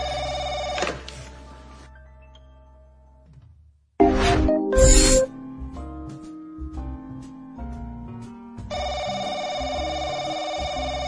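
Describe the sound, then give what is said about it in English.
A telephone at the LTE TV station rings in repeated bursts of bright, sustained electronic tones, with a brief pause and a louder jangling burst in the middle, then the ringing resumes steadily. No one speaks. “Can you answer the phone”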